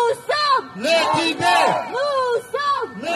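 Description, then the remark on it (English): A crowd of Students for a Free Tibet France protesters chants and shouts in unison towards a museum, led over a microphone, loud rising-and-falling cries such as "Tibetan art deserves its real name" repeating in a steady rhythm with brief pauses between phrases. “the group's president, shouts into a microphone, leading the group in chants, shouting towards the museum.”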